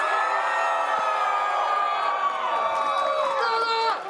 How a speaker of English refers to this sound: Who here loves their mom? All right, good. I want you all to cheer for your mom. I want you to cheer for your mom. Show me how much you love your mom. Let's hear it.